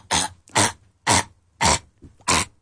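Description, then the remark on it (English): Five sharp, forceful coughs from a person who choked on a piece of spaghetti while eating, in a steady, evenly spaced rhythm, fairly loud, with short quiet breaths between them and no talking. “I had to cough a little bit. I coughed a little bit, but it was okay.”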